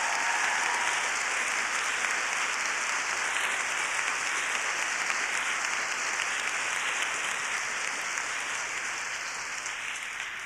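An audience claps steadily, a dense, sustained wash of many hands applauding together at an even, fairly loud level with no voices standing out, easing slightly toward the end.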